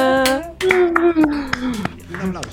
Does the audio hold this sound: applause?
yes